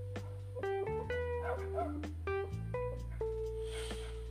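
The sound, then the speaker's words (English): Dogs bark and yip in quick, irregular bursts, several short sharp calls over a few seconds with no one talking. “And I also got to go ahead with these dogs.”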